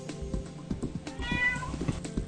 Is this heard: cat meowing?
yes